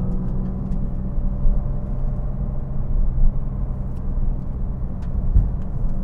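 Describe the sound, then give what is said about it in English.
A car's engine rumbles steadily from inside the cabin as it drives through a corner, a low continuous drone with road noise and a few faint clicks, no voices. “All-wheel drive, front-wheel drive, grip assistance on the corner.”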